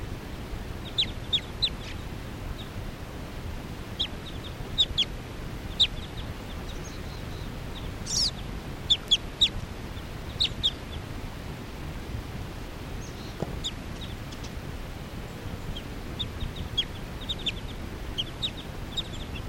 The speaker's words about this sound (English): Recording that same bird.